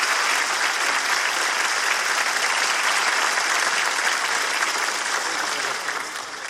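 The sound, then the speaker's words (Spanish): The audience of the show Hablando Huevadas gives sustained, dense applause for people going through hard times, many hands clapping loudly and steadily before easing slightly toward the end, with no talking over it. “Y un fuerte aplauso para toda la gente que la está pasando mal, pero que ve Hablando Huevadas y se acompaña con nosotros, de verdad.”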